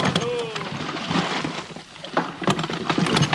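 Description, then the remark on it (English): Oars dip and splash in a steady rhythm as the crew of a wooden whaleboat pulls through choppy water after a whale, with sloshing waves and faint voices in the background. “Boat steer! Out oars and pull!”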